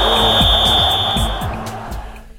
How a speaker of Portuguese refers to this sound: Pois é, o apito soou, hora de 11 minutos, o quadro esportivo do Conexão Senado.